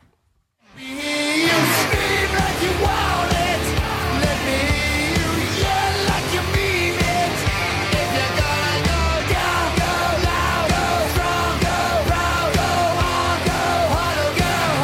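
A loud, driving rock song bursts in after a brief silence, with heavy drums and guitars under harsh, yelled vocals that keep going at full volume throughout.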